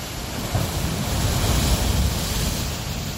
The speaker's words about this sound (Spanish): El mar está revuelto, las olas impresionantes rompen con mucha fuerza.